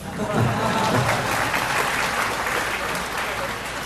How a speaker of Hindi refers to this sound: तो आप सब ताली बजा के मुझे रोकना चाहते हो।